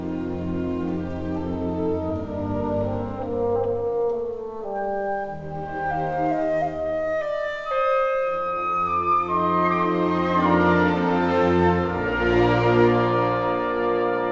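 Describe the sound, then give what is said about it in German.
An orchestra plays a gentle pastoral passage in which clarinets imitate a cuckoo's call, a falling two-note figure sounding over sustained strings and winds, steady and moderately loud with no voices. “Beethoven setzt den Kuckuck in die Klarinetten.”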